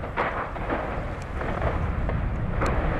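A deep, continuous roar of tens of tons of ice, a large block fallen from an iceberg, crashing into water, heard from a boat about 50 metres from the iceberg while filming Faut pas rêver; heavy low rumble throughout with sharp crackling bursts flashing over it, loud and steady for the whole stretch, with no voices.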